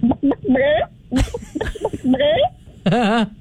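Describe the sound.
A caller imitates a chicken with a string of short, pitched vocal clucks and squawks, ending in a longer wavering bawk, fairly loud.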